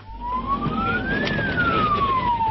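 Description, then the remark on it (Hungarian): A fire engine siren wails loudly as firefighters in Miskolc, Hungary respond to burning undergrowth in Miskolc-Tapolca, its pitch sliding up and then back down in one long sweep over a steady rumble of engine and road noise. “Vonulnak a miskolci tűzoltók, naponta legalább 60-szor.”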